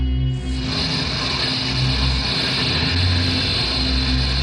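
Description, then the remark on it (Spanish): A heavy metal security vault door grinds open with a steady, loud mechanical rumble and hum that swells in after a brief moment and drones on without pause. No voices. “Al abrirse la puerta metálica de la bóveda, descubren a Calimán y Solín derrumbados en el piso.”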